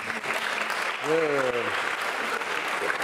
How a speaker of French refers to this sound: Exactement. Bravo. Très bien. Alors, on va vous applaudir aussi.